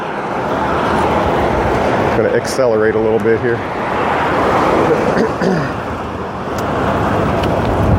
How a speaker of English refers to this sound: It has a bicycle lane. But as you can hear, cars and trucks are going really fast right next to me. So I don't like staying on this road any longer than I have to.